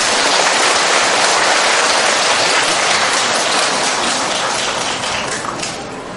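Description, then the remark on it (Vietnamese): A large crowd of Buddhist followers claps steadily at a Buddhist gathering in a dense, continuous wash of applause, loud and sustained, tapering slightly toward the end. “Xin Phật tử cho một tràng pháo tay.”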